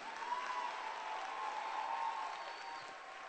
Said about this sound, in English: Clap your hands. Louder.